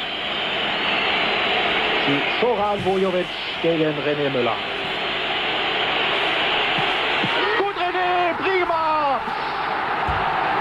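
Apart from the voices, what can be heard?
football stadium crowd atmosphere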